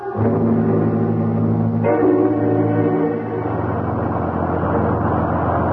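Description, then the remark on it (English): A bus drives along without a driver, with a loud engine drone, a steady tonal hum that shifts partway through into a rougher, grinding rumble. No one speaks. “We've been on this godforsaken bus for almost 20 minutes. It keeps on going without even a driver.”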